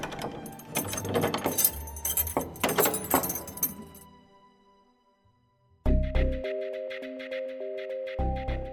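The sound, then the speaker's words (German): The last door of a family crypt thuds shut and a large silver key rattles and clicks in its lock, fairly loud, over a few seconds. After a short silence, sustained musical tones begin. “zieht die letzte Tür zu und verschließt sie mit dem großen silbernen Schlüssel, der schon immer im Besitz der Familie ist und dort bleiben wird.”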